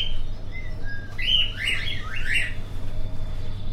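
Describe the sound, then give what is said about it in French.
Budgerigars in an experiment room chirp and warble in a quick cluster of several calls over a steady low mechanical hum; the chattering fades and leaves only the hum. “Donc, ici, on va aller voir les perruches.”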